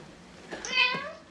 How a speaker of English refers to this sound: What was that? That was Jack. He said that he's got to go meow. Meow? Right, meow.